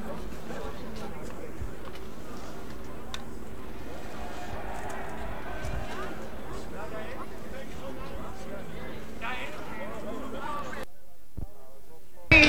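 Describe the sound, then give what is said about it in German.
A dense, chaotic crowd commotion in a metro station, with many voices and hurried footsteps echoing as everyone runs toward the metro exit, continuous and fairly loud before cutting abruptly to near silence at the end. “Iedereen begint te rennen richting uitgang metro.”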